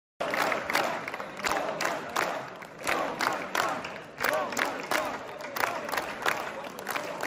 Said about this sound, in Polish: Tak, to są posłowie PiS-u, którzy na wygraną Trumpa zareagowali wrzaskami, skandowaniem Donald Trump w polskim parlamencie.